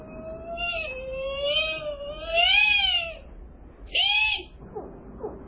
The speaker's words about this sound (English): Biologic? Sounds like a whale.